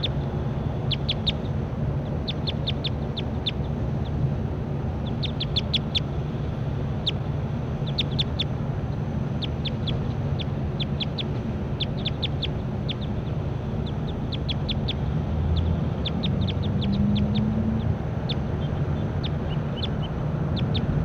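bird calls

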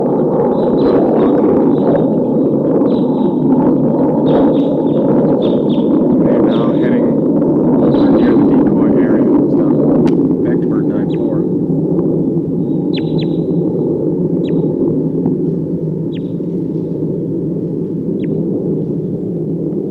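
flock of crossbills calling

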